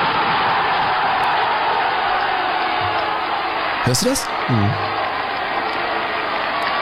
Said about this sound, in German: Und das Stadion an der Hafenstraße war einfach legendär. Ich meine, ich habe mal so einen Torjubel mitgebracht, wie das klang, wenn Essen getroffen hat in den 70er Jahren.